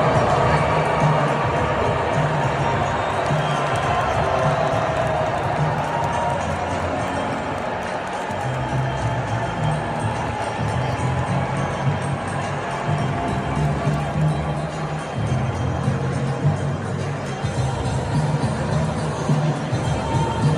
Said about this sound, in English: there's a reason why everybody's booing him